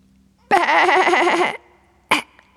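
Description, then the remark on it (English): A voice imitates a cough: one loud, drawn-out, wavering croaky hack lasting about a second, then a pause and a single short, sharp cough. “Because I've got a cough too, you know.”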